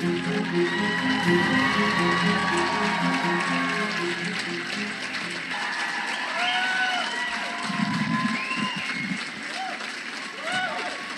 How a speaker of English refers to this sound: Then Representative Ilhan Omar, she arrived on stage to much applause.